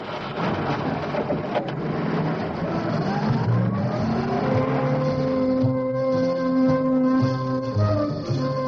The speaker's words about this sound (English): As car 44 moves northwards on the M1, the little girl indicates to the two policemen that she entered the motorway from the 11th Avenue on-ramp.